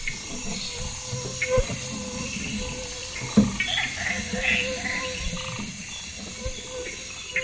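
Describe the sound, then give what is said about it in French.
A steady, full-bodied rush of strongly flowing river water fills the scene, continuous, with a few faint splashes and rustles rising briefly above the constant wash, as the current pushes against a wall of trees along the forest riverbed. “Un rempart d'arbres qui plonge dans les lits de la rivière et se heurte à la puissance des flots.”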